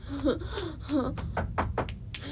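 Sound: knocking on a door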